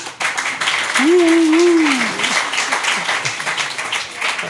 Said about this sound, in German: Mit einem kleinen Applaus.